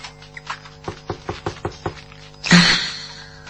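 A quick run of about six evenly spaced knocks on a door, crisp and moderately loud, followed by a louder rushing burst that slowly fades. No one speaks.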